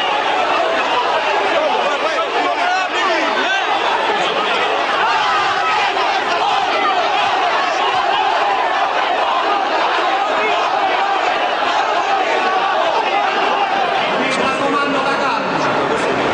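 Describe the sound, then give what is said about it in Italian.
A large, agitated crowd shouts and roars in a dense, unbroken wall of voices, loud throughout, with individual yells surfacing from the constant uproar. The furious crowd is at the funeral of five escort agents killed with Borsellino, at the cathedral of Palermo, breaking through the cordons of 4,000 police agents as politicians arrive. “All'arrivo dei politici, la folla inferocita ruppe i cordoni dei 4.000 agenti chiamati a mantenere l'ordine.”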